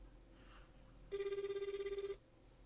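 telephone call ringing

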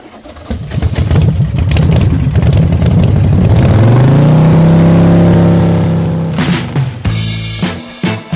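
motorcycle engine revving

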